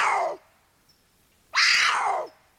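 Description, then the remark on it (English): A large puma gives two harsh, raspy screams that slide downward in pitch. The first is cut off at the start; after a short silence comes a louder, drawn-out second cry. “This is a big puma, too.”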